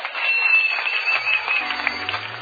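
A crowd at a church service gives Jesus a hand clap in a steady, dense wash of applause that holds at an even level throughout, with a low tone humming faintly underneath toward the end.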